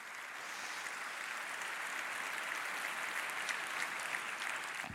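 An audience claps steadily for about five seconds, a dense crackle of many hands that stays at an even, moderate level throughout, with no voices on top.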